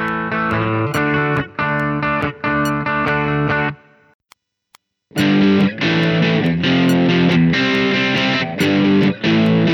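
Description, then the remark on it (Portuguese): Electric guitar chords with a warm, natural overdrive produced by turning up the amplifier volume, strummed in loud rhythmic bursts, then a brief silence before the driven chords resume, played alone with no voices. “depois numa guitarra com efeito overdrive natural, derivado de aumentar o volume do amplificador, e finalmente uma guitarra com distorção do heavy metal.”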